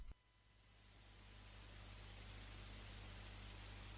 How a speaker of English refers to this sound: Since Norway is the only country to abandon its FM infrastructure and switch to digital audio broadcast, most of the Bergen FM dial is static.